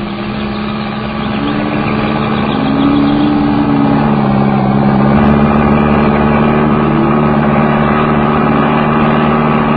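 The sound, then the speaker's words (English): A motor car engine drones steadily, its low rumble swelling slightly as it pulls along, loud and continuous with no voices, as the car arrives in the evening in a village in the north of Scotland. “It was past eight that evening when we arrived by motor car in the village of Bannock in the north of Scotland.”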